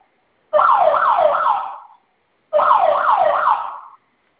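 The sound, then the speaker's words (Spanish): An alarm system siren sounds in two loud bursts of about a second and a half each, separated by a brief pause, as the alarm is being silenced. Its high tone warbles rapidly up and down, with no talking. “Esa alarma ahorita se va a silenciar.”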